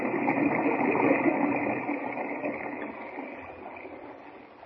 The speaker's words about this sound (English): Now, we've got to swim for it. The water's over our heads.